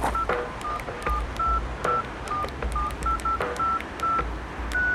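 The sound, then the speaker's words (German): A rapid series of short electronic keypad beeps as a mobile phone's number is dialed, roughly a dozen tones in quick uneven succession over a low background hum, with no one speaking. “Wieso rufen Sie das Telefon nicht einfach mal an?”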